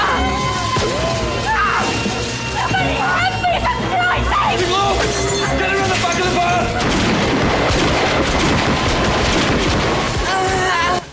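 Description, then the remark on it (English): Gunfire cracks out in a shootout as a woman is shot in the stomach, amid a loud, chaotic din of screaming and shouting voices, with shots and crashes blurring together for the whole stretch before it cuts off abruptly. “Another woman takes a bullet in the stomach and collapses.”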